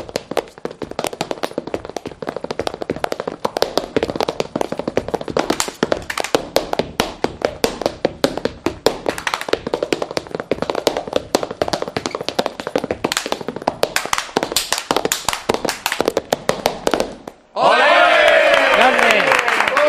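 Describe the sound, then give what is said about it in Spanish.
Rapid, loud flamenco boot footwork in bulería rhythm: a dense, driving stream of sharp heel and toe strikes for about seventeen seconds, then an abrupt stop into cheering and shouting voices. “Yo que como, siempre sospechaba sonaba, que vuestras botas llevaban ahí una chapa para hacer más ruido.”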